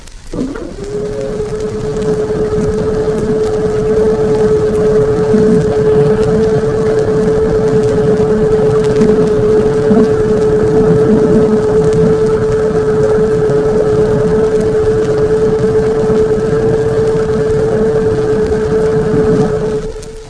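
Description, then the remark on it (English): A submarine periscope being raised: a steady mechanical motor drone with a constant humming tone that starts abruptly and holds unbroken for nearly twenty seconds before cutting off. No voices. “Raising the periscope.”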